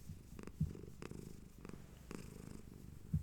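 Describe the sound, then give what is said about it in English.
A domestic cat lying upside down on a bed, wanting belly rubs, purrs steadily, a low rhythmic rumble with soft pulsing breaths, plus a couple of brief louder thumps. “I have a cat on the bed, and she's upside down. She wants belly rubs, and she's purring, so I can't really do what I was planning on doing.”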